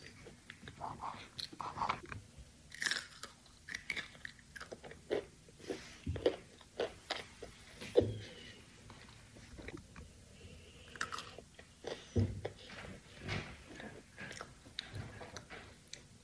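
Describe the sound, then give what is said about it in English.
Crisp crunching and chewing of hard pretzel snacks with Nutella, with irregular bites and mouth sounds repeating steadily throughout, no talking. “The texture with the crunch and the creamy is so good.”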